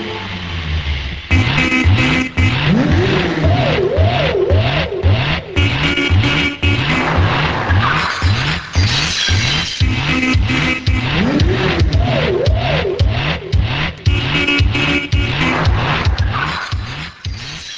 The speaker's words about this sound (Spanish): Al paso fronterizo se acerca un coche. En el puesto de control de la Policía de Extranjería están instaladas cámaras y un terminal del sistema informático para la identificación de matrículas.